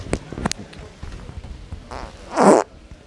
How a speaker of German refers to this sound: Ey, hast du es nicht echt gemacht? Du hast dich echt ins Mikrofon gefurzt, oder?